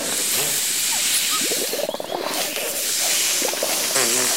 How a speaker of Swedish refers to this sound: Blås upp ballongen nu allihopa.